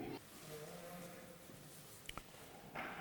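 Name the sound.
sheep bleating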